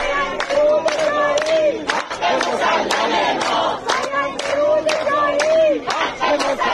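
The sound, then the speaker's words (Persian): A large crowd of people in Isfahan, Iran, gathered on a Friday in support of farmers protesting the denial of their water quota for autumn planting, chants slogans in unison, loud and rhythmic, with repeated shouted phrases rising and falling in regular bursts and a steady wash of voices underneath. “جمعی از مردم اصفهان روز جمعه با تجمع و سردادن شعار حمایت خود را از کشاورزان معترض به نگرفتن سهمیه آب برای کشت پاییزه اعلام کرد.”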